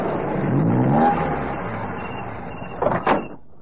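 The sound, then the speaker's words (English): A car comes down the hill from the ridge roadside, rolling closer with a low engine rumble that swells and then eases off as it slows, while crickets chirp in steady pulses and a couple of brief clunks sound near the end. “There's a car coming down the hill from the Ridge roadside, sir.”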